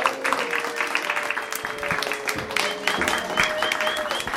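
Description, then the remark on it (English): A crowd applauds steadily for several seconds, dense overlapping clapping at a fairly loud, even level, with a faint sustained tone running underneath. “Big round of applause.”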